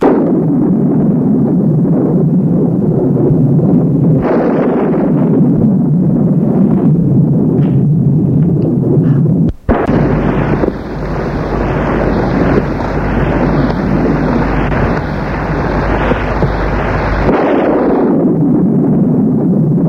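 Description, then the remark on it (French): Loud, continuous low rumbling of a storm with a sharp crack near the middle, followed by heavy rolling thunder that swells and sustains before easing back into a steady roar. “Et au milieu de l'orage, des éclairs, du tonnerre, dans une chambre éclairée par le passage des éclairs”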